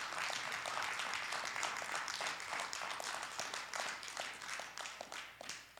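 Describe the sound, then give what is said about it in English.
A church audience breaks into steady hand clapping to thank God during a sermon, many overlapping claps forming a dense, crackling wash of applause that holds level before easing slightly toward the end. “Let's thank God for that with a hand clap.”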